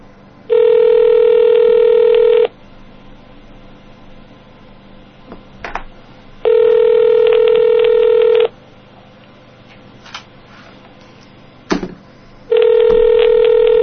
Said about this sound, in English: All right. Here we go. It's ringing.